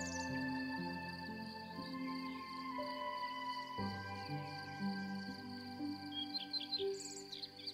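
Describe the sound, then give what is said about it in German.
A steady bed of insect chirring with small birds chirping and tweeting over it, continuous and fairly soft, with no talking. “Du kannst auch ein paar Vögelchen und Insekten hören.”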